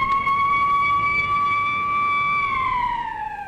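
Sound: factory whistles blowing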